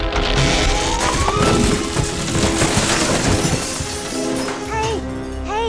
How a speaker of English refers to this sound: Guys, your treehouse has crashed to the ground.